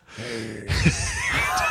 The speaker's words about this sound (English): Breathing really heavily into the mic.